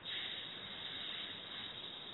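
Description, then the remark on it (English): A woman holds a long, steady hissing "sss" sound, fairly loud, sustained evenly without pause and with no other speech. “She makes a long S sound.”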